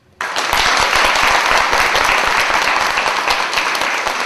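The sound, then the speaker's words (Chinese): A crowd breaks into sustained applause, a dense, steady wash of many hands clapping at once, loud and even from start to finish with no voices standing out. “再一次鼓掌。”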